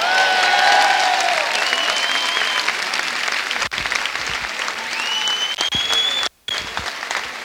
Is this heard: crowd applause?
yes